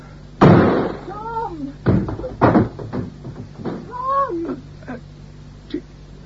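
A door is forced open with a few heavy, booming, loud impacts, broken by high, whining creaks that bend downward in pitch before the noise fades.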